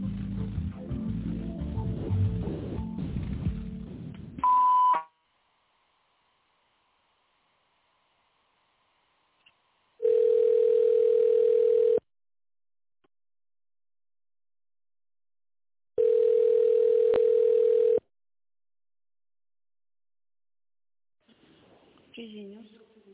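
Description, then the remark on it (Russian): Muffled, noisy voice-like sound gives way to a short, higher beep, followed by two long, steady, mid-pitched telephone line tones separated by silence, like a phone ringing on the line. This is a call to a company's automated phone line after the prompt to dial an extension after the signal or wait for the secretary to answer. “Если вы знаете добавочный номер абонента, наберите его после звукового сигнала или дождитесь ответа секретаря.”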